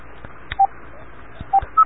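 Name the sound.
phone beeping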